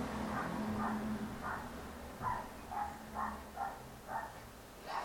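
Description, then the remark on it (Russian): A small dog in a house yaps in a quick, steady series of about eight short barks, muffled, over a low background hum. “Веселая собачка завелась в дом.”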